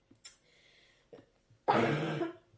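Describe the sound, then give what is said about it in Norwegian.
A single loud, harsh cough, deliberately made louder than a quiet cough, bursts out after a couple of faint throat-clearing sounds, lasting about half a second before trailing off. “Nå tok jeg det bare litt høyere, bare sånn.”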